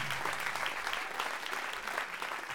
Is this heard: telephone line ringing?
no